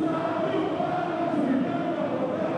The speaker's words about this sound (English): The crowd starts singing and dancing.